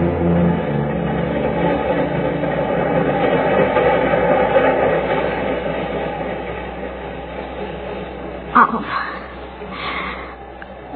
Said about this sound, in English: Subway, go faster. I want to go home.